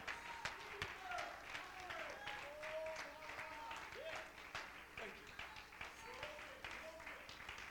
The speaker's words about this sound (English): My God, if you like what I'm preaching, you ought to stand to your feet and clap your hands and lift your voice